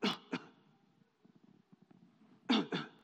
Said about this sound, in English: And he started coughing.